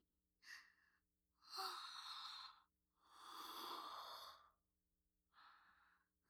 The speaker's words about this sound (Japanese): あれ？大きなあくび。